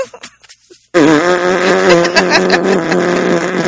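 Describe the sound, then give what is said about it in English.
A sustained, buzzing trumpet-style lip buzz made by a former trumpet player, starting abruptly after a brief breathy pause and holding loud with a wavering pitch for about three seconds. “Can you do a buzz for me?”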